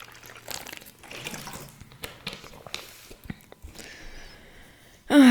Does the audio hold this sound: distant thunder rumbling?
no